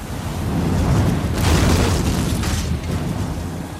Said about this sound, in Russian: Мне казалось, что я умираю, однако грохот падающего утеса вернул меня к действительности.